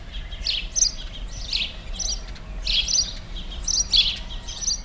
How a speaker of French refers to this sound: Par exemple, si on est attentif, on reconnaîtra facilement le passereau le plus commun et le plus connu de nos villes, le moineau domestique.